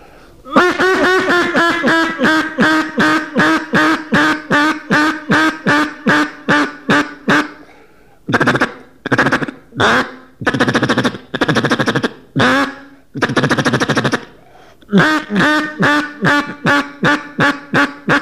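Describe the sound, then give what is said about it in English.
A single duck call blows a long, steady run of loud, rhythmic quacks, fast at first, then broken into a few longer drawn-out notes before the quick quacking resumes. Clear, with no talking. “And a lot of times I'll continue a call, and I'll call with a single call, but I'll just keep it up till I pick my gun up.”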